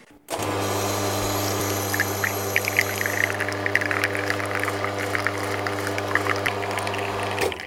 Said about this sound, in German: Und wir gießen jetzt auch, und zwar die Crema in die Kaffeetasse. Sehr schön.